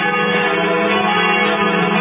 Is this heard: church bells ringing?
yes